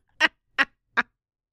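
Three sharp, abrupt hiccups brought on by hard laughing and crying, in quick succession, evenly spaced about a beat apart, each a short throaty yelp with no talking around them.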